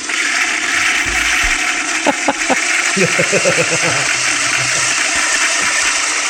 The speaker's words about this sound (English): That's still going. Yeah, we're going for a while. So there's a double flush.